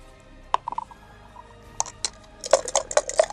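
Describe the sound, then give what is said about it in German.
Dice rattle and clatter on a hard surface, starting with a few isolated sharp clicks and ending in a quick burst of tumbling knocks. Fairly crisp, with no talking. “Okay, dann lass mich mal würfeln.”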